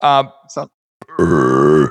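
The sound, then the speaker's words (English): A loud, drawn-out burp after drinking bourbon, rumbling for most of a second, preceded by a couple of short throaty grunts and a brief pause. “Excuse me. That was a bourbon burp.”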